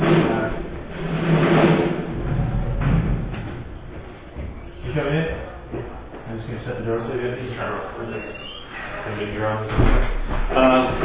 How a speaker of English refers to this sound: Shut the doors.